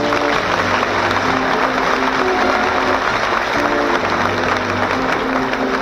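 A large show audience claps and cheers loudly for a band, a dense, steady wash of applause with shouts mixed in that holds at full volume without a break.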